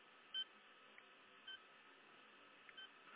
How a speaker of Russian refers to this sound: Нет, на кнопки нажимаешь, которые, ну, нигде звонить, а вот остальные, они все пикают. Сейчас я вам это самое попикаю. А вот где звонок, он молчит.